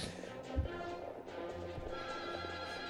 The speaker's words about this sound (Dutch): Daar komen de paarden. Zijn ze al, ja. Met vuur.